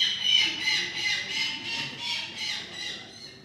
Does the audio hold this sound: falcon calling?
yes